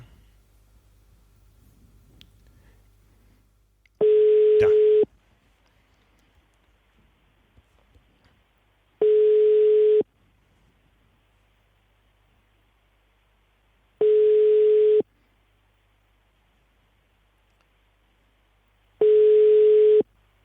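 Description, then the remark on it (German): A steady telephone busy tone sounds four times while a call is placed to a triathlon press office in Cologne. Each beep lasts about a second, with roughly four seconds of near silence between, clear and at moderate volume. “Wahrscheinlich klingeln da in der Zentrale die Telefone heiß.”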